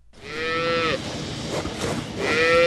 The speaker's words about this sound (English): What do these cows on this dairy farm in northeast Colorado have to do with China? More than you'd think.